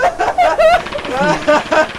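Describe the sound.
A voice mimics a bomb blast with a loud, sputtering, rumbling noise that wobbles up and down in pitch and sustains in a few bursts for about two seconds.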